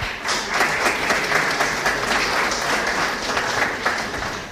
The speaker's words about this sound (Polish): Wielkie brawa.